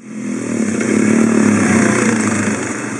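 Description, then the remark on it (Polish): A motocross bike engine revs loudly and steadily, its buzzing drone swelling in the first second and holding at full throttle before easing slightly toward the end, with no voices. “Jednocześnie mieszkańcy przyznają, że problem z krosowcami i kładami jest tutaj nagminny. Jeżdżą gdzie chcą i z nikim się nie liczą.”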